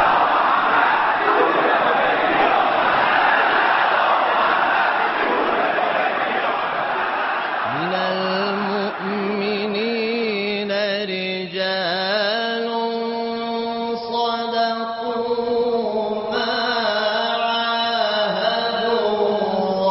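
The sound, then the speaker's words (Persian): A loud, dense crowd rising as the Iranian leader enters roars for several seconds, then breaks into a sustained unison chant of slogans in steady, drawn-out tones that carry through to the end. “جمعیت بلند شد و شعارا محکم‌تر.”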